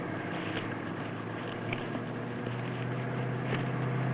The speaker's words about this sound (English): Car coming, Colonel!